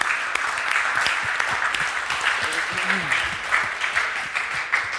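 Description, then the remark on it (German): Steady applause from a crowd for a correct answer in a quiz game, a dense wash of clapping that holds at a fairly even level throughout, with a few brief voices murmuring underneath. “Damit steht es in diesem Spiel 1:1 und wie das, ja, Applaus für die richtige Antwort.”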